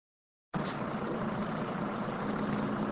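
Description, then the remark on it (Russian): A steady, low engine rumble fills the space, heard from inside a bus driving past a pond on the way to the Dzhangar ponds under blue skies, with a constant hum and faint rattling vibration holding level throughout and no voices. “Хорошо, что пруд не видит за деревьями, как я на автобусе проезжаю мимо него.”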